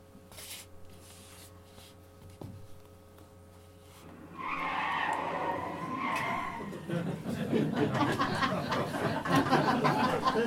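A car's tires screech loudly in a sustained skid for a couple of seconds as it brakes to a halt on Ashley Avenue, followed by a burst of excited voices and commotion.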